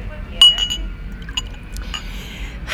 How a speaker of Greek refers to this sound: Ξαναγέμισε το ποτήρι της.